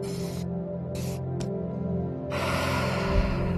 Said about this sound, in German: Dann atmen wir nochmal tief durch.